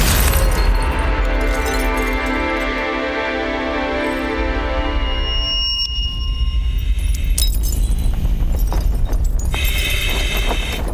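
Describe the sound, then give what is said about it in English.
Glass shatters in a loud, sustained crash full of bright ringing tones, then breaks into a scattered clatter of shards, with sharp high tinkling toward the end. “Pieces of glass trickle to the ground as a small crack slowly moves across his helmet.”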